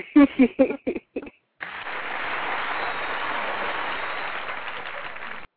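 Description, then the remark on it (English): A voice speaks briefly, then a burst of canned applause from a soundboard, played by a wrong button press, runs for about four seconds, a steady, dense wash of clapping that holds even loudness before cutting off abruptly. “Right, you put that applause on there.”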